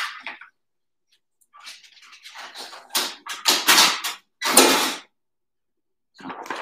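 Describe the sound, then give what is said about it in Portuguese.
Rustling paper and clattering plastic as sheets are pulled from a printer and the machine gets jostled nearly off its place, then goes back into place, a run of loud, irregular bangs and scrapes with brief pauses, no voices. “A pessoa quase destruiu a impressora, mas ela voltou para o lugar.”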